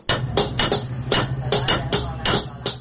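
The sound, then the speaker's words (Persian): A coppersmith hammering on copper in the coppersmiths' bazaar of Herat, Afghanistan: about a dozen sharp, ringing metallic strikes in a quick, uneven rhythm, fairly loud, over a steady low background hum. “نه صدای آن چکش‌ها به گوش می‌رسد و نه هم ظروف میسی خریداران سالهای گذشته را دارد.”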